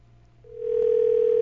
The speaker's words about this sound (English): Ta-da. See if he answers his phone. It's very important that he answers his phone.